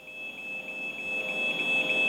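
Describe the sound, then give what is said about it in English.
A high-pitched alarm on a 60-mile electrified fence along a remote stretch of the South Africa-Mozambique border sounds continuously, triggered by a person touching the fence: a piercing steady tone with a fast pulsing warble over faint background noise, holding at a steady, fairly strong level throughout. “This high-pitched alarm is a familiar sound on this remote stretch of the South Africa-Mozambique border.”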